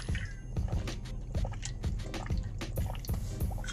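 drinking water

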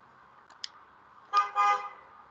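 car horn honking

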